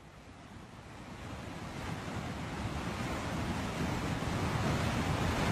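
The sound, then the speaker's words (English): A steady, powerful roar of rushing floodwater from a swollen river, dense and continuous, growing slightly louder over the few seconds, with wind buffeting the microphone and no voices. “This is the power of a river that is on the brink of being out of control, but the banks of the river are still sort of keeping the river in place.”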